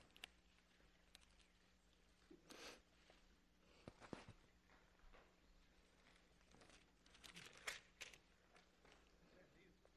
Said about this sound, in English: I hear the pages turning.